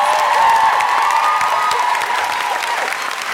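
A crowd applauds loudly and steadily, a dense wash of clapping with a few cheers mixed in, holding strong throughout before easing slightly at the end.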